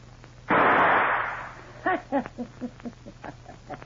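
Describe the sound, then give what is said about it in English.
A single loud gunshot, fired to shoot the key out of a door, blasts out and rings off over about a second, followed by a string of short, uneven tonal grunting sounds. “Get it and shoot the key out of the door behind you.”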